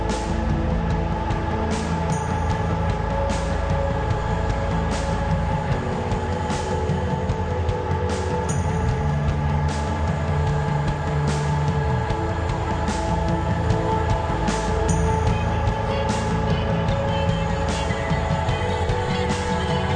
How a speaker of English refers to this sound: I'll turn up the airplane a little bit.